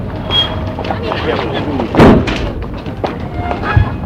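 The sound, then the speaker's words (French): A chauffeur shuts the door of a large black car with a solid thud partway through, followed by a softer knock near the end, against steady street noise and faint background voices. “Il ouvre la portière, elle s'engouffre, le chauffeur ferme la portière.”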